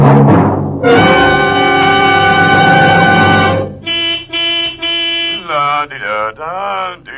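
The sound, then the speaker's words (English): The horn of a limousine called Oscar plays a little tune, starting with a long, loud sustained blare, then a run of short rhythmic toots that shift in pitch, with no voices. “Well, if it isn't Oscar, the singing limousine.”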